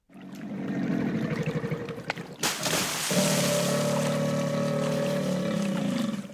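A motorboat engine drones steadily while water rushes and splashes around it, the hum shifting pitch partway through and continuing without pause; no one speaks.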